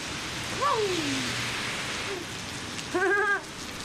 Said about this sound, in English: We walk out of the Paris, Texas courthouse into the pouring rain.